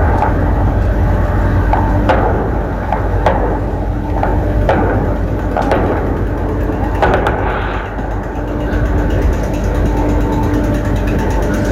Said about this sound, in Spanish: Usted escucha disparos, en este caso, es digamos lo que nos están señalando, esto es el Cementerio General, es los patios de tierra, particulares los patios de tierra que están contiguos al Cementerio General.